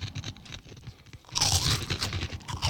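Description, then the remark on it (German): Crunching of an airy puffed snack that is mostly air, with quick crackly bites that build from a softer start into a louder, dense burst of crisp crackling about halfway through, with no talking. “Aber schon krass, also hat weder was so mit der Flips, typischen Flips-Konsistenz zu tun, noch mit diesen Schweineohren, ja, die man so kaufen kann.”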